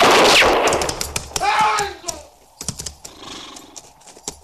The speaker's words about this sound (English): It was Hook shot him, sir, before anyone could stop him.